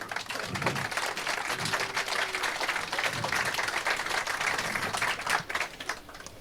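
An audience applauds steadily for several seconds, a dense crackle of many hands clapping at once at a fairly even loudness, with a few faint cheers mixed in.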